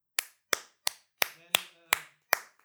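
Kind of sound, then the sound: human body sound, hands clapping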